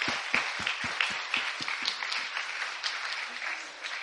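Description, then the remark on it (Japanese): An audience breaks into steady applause for those who went to camp as they stand up with their camp shirts, many hands clapping together in a dense, crackling wash with a few sharper individual claps standing out early on, tapering slightly toward the end. “Give them a big hand. 皆さん拍手で。”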